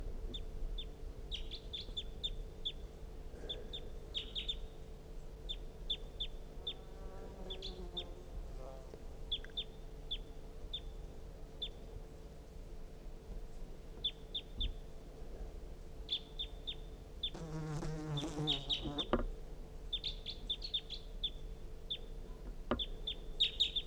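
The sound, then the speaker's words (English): Recorded decoy bird calls played from a recording pointed at a wild bird, with the wild bird also calling: a steady series of short, high chirps throughout, with a louder burst of harsher, rasping calls about three-quarters through, over a low continuous hum. “That was the decoys.”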